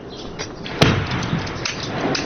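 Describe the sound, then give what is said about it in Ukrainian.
A single sharp, loud blast of an RPG grenade exploding close by, near a Radio Svoboda correspondent in Marinka, Ukraine, during hours of shooting: a sudden crack followed by a rumbling decay over a steady background noise. “Одна падає неподалік нас, розповідає кореспондент.”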